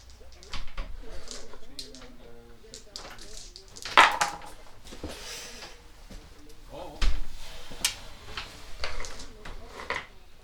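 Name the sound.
door being closed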